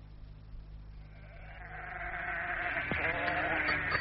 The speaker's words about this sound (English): Now get away, you silly sheep. Shoo, shoo, shoo.